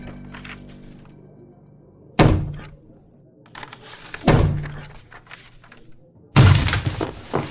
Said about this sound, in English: He wouldn't open the door, so I had to use him as a battering ram.